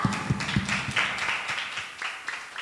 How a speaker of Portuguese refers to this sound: Palmas!